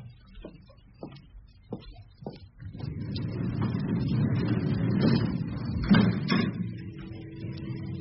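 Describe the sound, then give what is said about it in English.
A few short knocks and clicks give way to a steady mechanical rumble as a lift door slides shut at the Accounts floor, with a heavier thud near the end and a low hum continuing after. “I'll hold the door for you.”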